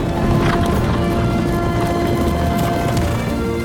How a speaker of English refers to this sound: She crouches down as a herd of wild horses, the bankers of Rodanthe, gallop across the beach towards her.